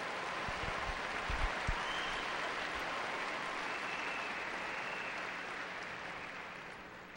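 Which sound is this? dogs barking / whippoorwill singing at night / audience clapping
audience clapping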